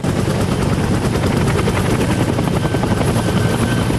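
A helicopter rotor thumps loudly and steadily, its rapid rhythmic chopping filling the whole stretch with dense, roaring engine noise and no voices, as injured Marines are carried past it; the helicopter then takes off.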